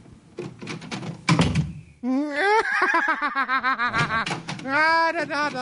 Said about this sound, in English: What are you doing with the door? Well, please time, stop opening and closing the door. Every time I hit the door, you change the personality.